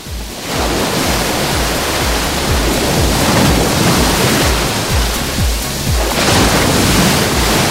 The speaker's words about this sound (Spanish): ¿cómo suena la playa de Salobreña? Pues así, orientamos el micrófono.